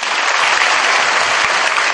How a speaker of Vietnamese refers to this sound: Như vậy là vỗ tay nhỏ hơn 100 học sinh mù. 100 học sinh mù vỗ tay lớn hơn 300 bạn đang ngồi ở đây, là bởi vì các bạn chưa nhiệt tình. Đâu, các bạn vỗ tay lại xem.